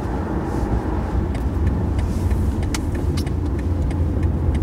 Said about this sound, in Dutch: We rijden nu op een smal weggetje met aan beide kanten auto's. En overal waar je kijkt staat wel een fruitboom. Of is een fruitboomgaard.